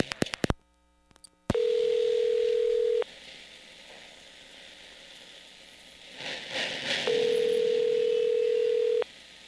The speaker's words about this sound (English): Please hang up momentarily, listen for dial tone, deposit the required coin, and dial your call again.